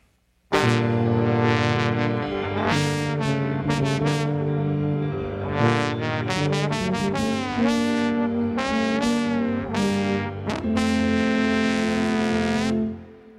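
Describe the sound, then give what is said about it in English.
A trombone and tuba play together the theme depicting the Pig, a loud, low brassy melody of held notes and short rising phrases over a steady deep bass line, with no voices. “The Pig by the trombone and the tuba playing together.”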